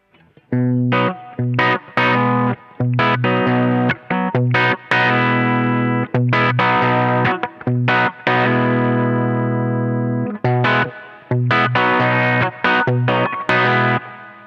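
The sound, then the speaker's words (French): A clean electric guitar plays sustained chords and picked notes through a Quilter amplifier, its direct tone, with a faint touch of reverb from the mixing desk tailing off between strums. No one speaks. “Donc là, c'est que le Quilter et vous allez voir qu'il y a un tout petit peu de Reverb.”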